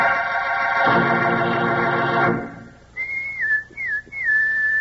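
In a Kellogg's Rice Krispies radio commercial, a loud, buzzy sustained tone cuts off, then a person whistles a call for a pal: three clear rising-and-falling notes with short gaps, the last one held.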